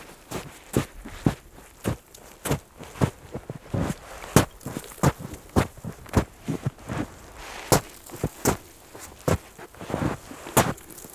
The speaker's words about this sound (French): Plus qu'une dizaine de mètres avant le col, une légère corniche ici vous accueille. Le son de la neige est plus creux.